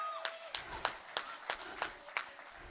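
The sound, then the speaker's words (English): Sparse, fairly quiet applause from the audience at the show Bawdy, giving themselves a round of applause: about eight distinct sharp claps in a loose, steady rhythm, sounding like only a few people clapping rather than a full crowd. “Give yourselves a round of applause for being attractive.”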